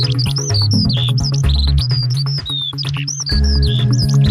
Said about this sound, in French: Les ornithologues amateurs auront peut-être reconnu la fauvette grisette, le bruant ortolan ou encore l'alouette des champs